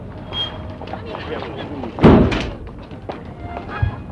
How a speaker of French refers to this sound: Le chauffeur ferme la portière.